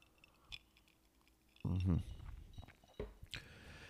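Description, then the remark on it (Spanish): Someone takes a sip of a drink, with small wet mouth clicks, a short swallowing gulp in the middle, and a soft exhale after, no talking. “Perdón, que me voy a tomar un traguito.”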